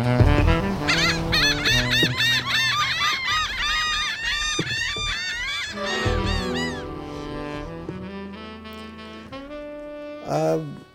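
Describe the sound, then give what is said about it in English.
A flock of geese outside the window honk loudly and repeatedly, their calls overlapping in a noisy chorus that gradually thins out, with one last burst of honking near the end. “I'm looking out the window right now, and I'm seeing these birds, and I'm thinking, happy Valentine's Day.”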